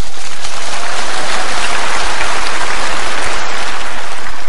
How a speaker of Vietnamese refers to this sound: Giỏi, cho một tràng pháo tay.